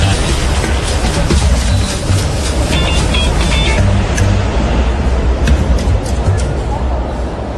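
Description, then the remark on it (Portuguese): A subway train rumbles loudly into a metro station, its steady low roar carrying brief high metallic squeals and clanks, with a faint murmur of voices beneath. “Kátia precisa ir de metrô. Chegou à estação, está ansiosa.”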